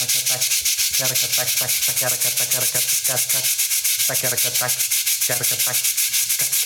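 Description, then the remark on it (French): Small balls taken from sinks roll across a plate of aluminium roofing insulation in a steady, loud, gritty rattle, with rapid fluttering pulses and a faint metallic ring running throughout, no voices. “Et puis par-dessus, c'est des petites billes qui vont rouler sur cette plaque d'aluminium.”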